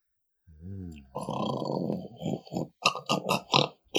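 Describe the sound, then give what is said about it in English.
A voice imitates someone snoring: a low, wavering hum followed by a long, rasping snort, then several short, choppy snuffling bursts at moderate loudness. “You hear someone snoring.”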